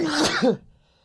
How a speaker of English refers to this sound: I'm sorry, did you hear me sneeze? Yeah, I did hear you sneeze.